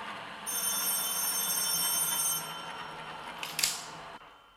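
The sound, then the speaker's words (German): A telephone bell rings with a steady, bright metallic trill lasting about two seconds, then fades, followed by a short clatter as the receiver is picked up. No one speaks. “Herrschaftszeiten, das blöde Telefon.”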